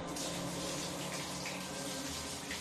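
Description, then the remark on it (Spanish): A bathtub fills with water from a tap in a steady, unbroken rushing hiss, loud and even throughout, with no voices. “Llenó la bañera, cogió una botella de alcohol y un frasco de pastillas y se metió en el agua.”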